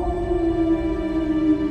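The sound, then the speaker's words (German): A sustained, mournful howl holds a steady pitch with only slight wavering, like wolves in Alaska howling in chorus, heard clearly and alone without any talking. “Und Nummer 5. Wölfe.”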